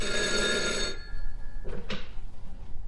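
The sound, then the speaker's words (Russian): A radio room call bell rings with a bright, continuous metallic trill for about a second, then cuts off, followed by a couple of short clunks and quiet handling noise. “Меня опять вызывает радиорубка.”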